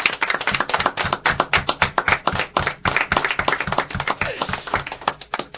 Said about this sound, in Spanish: Un aplauso para Juan Antonio.